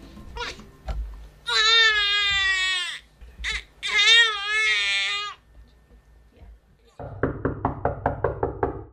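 A rapid, even series of about ten loud knocks on a door by visitors arriving to see a new mother and her first baby, following a stretch of high, wavering wails that sound like crying.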